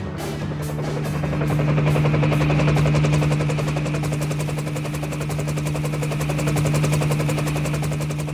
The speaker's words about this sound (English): The incident commander phoned in for the Navy helicopter. Angel 2, a specialized rescue helicopter equipped with a winch, took off from a San Joaquin Naval Air Station.